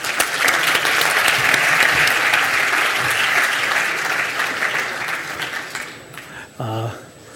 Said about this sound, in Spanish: ¡Un fuerte aplauso!